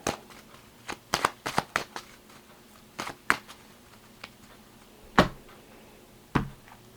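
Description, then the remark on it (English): A deck of cards being shuffled and handled, with a quick flurry of crisp snaps and slaps, then a few separate sharp flicks spaced out. No one speaks. “All right, so let's lay out the cards and see what's going on.”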